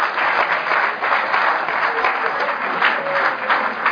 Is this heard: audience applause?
yes